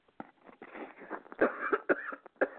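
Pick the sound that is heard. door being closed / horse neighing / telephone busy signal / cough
cough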